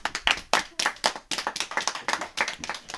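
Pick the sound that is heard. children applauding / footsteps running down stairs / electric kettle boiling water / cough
children applauding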